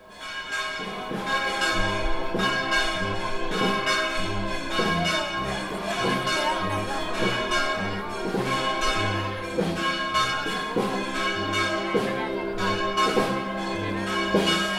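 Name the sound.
church bells ringing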